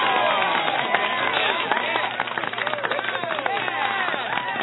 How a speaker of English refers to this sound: Thank you so much for that cheer and celebration